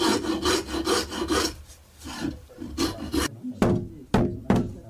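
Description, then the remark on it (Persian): Rhythmic rasping strokes scrape across the wood of a horse saddle being polished with simple hand tools, a steady back-and-forth series, then a few sharper, separate scrapes with brief pauses between them. No one speaks. “صیقل‌کاری و تزئین زین اسب زمانگیر است”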